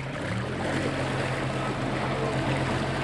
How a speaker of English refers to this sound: … steers a small boat gingerly along the canal. He and … point out the logs, cars, and other debris that will have to be dredged out before they'd even think of bringing a fishing vessel through here.